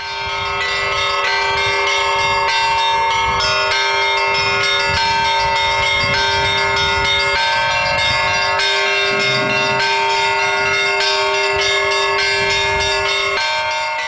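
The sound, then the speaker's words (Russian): Orthodox church bells ring out continuously, several bells struck in a steady, overlapping peal with long sustained tones, loud throughout with no voices. “Колокольный звон, без которого традиционно в православной церкви не проходит ни одно важное событие”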